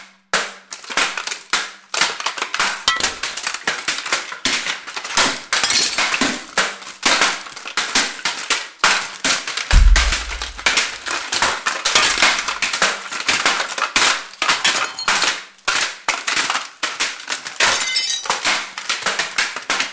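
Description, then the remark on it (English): A Neumann U87 microphone is smashed to pieces in a loud, continuous flurry of crunching, cracking blows and metallic clinks, with a heavier low thud partway through. No one speaks. “Hurry, Headless, smash it to pieces.”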